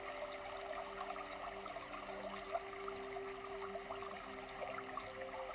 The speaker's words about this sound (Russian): И вы слышите, что где-то невдалеке мощный водяной поток. Вы идете к водопаду.